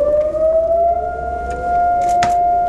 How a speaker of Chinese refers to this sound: 在以色列，人们在警笛声中默哀，纪念二次世界大战期间在纳粹大屠杀中遇难的600万犹太人。警笛划破长空，长鸣2分钟，整个国家停顿下来。